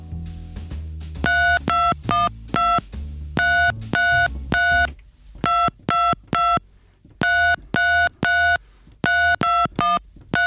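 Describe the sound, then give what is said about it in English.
A simple melody tapped out on telephone keypad tones, a quick sequence of short, loud dual-tone beeps in an uneven rhythm with brief gaps between notes, clear with no talking. “Any other tunes you want me to play on phone tones?”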